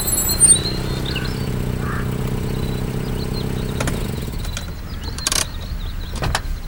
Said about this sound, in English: as Leah does as she pulls up the drive and into the parking lot